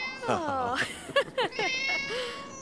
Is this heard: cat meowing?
yes